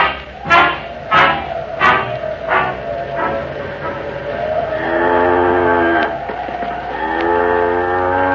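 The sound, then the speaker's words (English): A cow named Bess lets out a long, drawn-out moo, loud, following a quick series of five or so short, sharp bark-like bursts at the start. “she isn't a bad cow, is she?”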